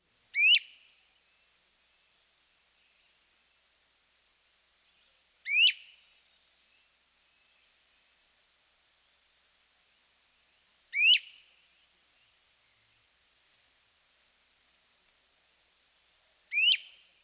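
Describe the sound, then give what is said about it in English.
A great crested flycatcher gives four loud, sharply rising weep whistles, spaced about five seconds apart, each one clear and isolated against a quiet background. “The first is a repeated weep. Listen to this ascending whistle.”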